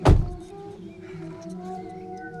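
A single heavy thunk of a car door shutting as a woman gets into a car, followed by a steady low droning hum with faint tonal overtones.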